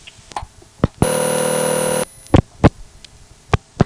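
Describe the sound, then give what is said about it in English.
A steady, buzzy payphone dial tone switches on abruptly and holds for about a second, then cuts off, with sharp clicks and clunks of handset handling before and after. The operator calls back and a dime is deposited in the prepaid payphone as the tone comes on. “In order to get the true sound of a dial tone coming on, I had the operator call me back, and I deposited a dime”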